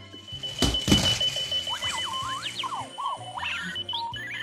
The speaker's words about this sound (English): Join us next time for the alarm clock that really gets around.